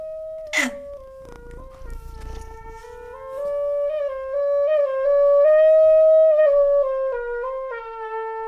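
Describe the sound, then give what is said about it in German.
A cat named Mauzi gives a long, drawn-out meow that wavers up and down in pitch for several seconds, loud, after a brief sharp noise at the very start. “Calma, Mauzi. Hä? Hä? Hä? Hast du Hunger?”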